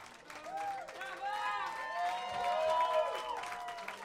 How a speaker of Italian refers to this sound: Questo applauso lo dedico al mio DJ ufficiale